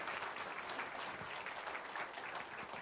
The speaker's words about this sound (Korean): 네, 지금 이 시간에 먼저 가셔서 우리에게 환하게 웃으시며 손짓하고 계시는 하나님께 우리 감사의 박수 한번 다시 올려드렸으면 좋겠습니다.